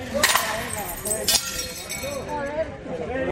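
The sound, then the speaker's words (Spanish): Plates are thrown onto the street by the hospitality sector as a cry for help, smashing in two sharp, bright crashes with a clinking scatter of shards, while voices carry on steadily underneath. “Se ha escuchado especialmente y de forma unánime en las últimas horas, precisamente con esos platos lanzados a la calle, partiéndose en mil pedazos, como sus negocios”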